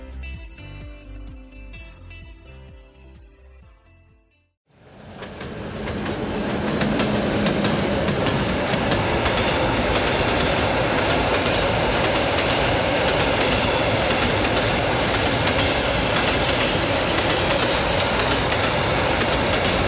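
A few seconds of soft tonal notes cut off, then a loud train rolls along the rails with a steady rumble and rhythmic clatter that continues without letup.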